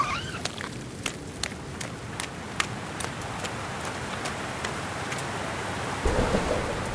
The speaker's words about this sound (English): It's raining. I mean, I knew that, but it's really raining.